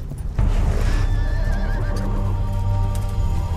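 A horse lets out a loud, wavering whinny over a steady rumble of hooves clip-clopping on the ground; no one speaks.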